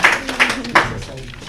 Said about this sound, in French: Bon bah c'est une bonne réponse. On l'applaudit. Bah les applaudir.